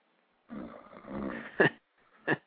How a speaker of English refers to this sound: I'm hearing somebody snoring in the background.